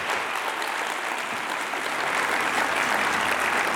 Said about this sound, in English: So let's welcome to our campus Dr. Elmer Towns. Big round of applause.